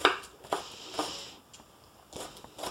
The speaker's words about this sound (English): Chopping onions is kind of a pain. You will find that they produce less of the stuff that makes you cry if you have refrigerated your onion ahead of time.